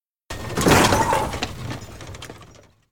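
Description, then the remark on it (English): A horse-drawn caravan, struck by a fast car, crashes over onto its side: a sudden loud impact bursts into shattering and splintering, then scattered clattering debris tumbles and fades away over about two seconds, with no voices. “The caravan falls on its side.”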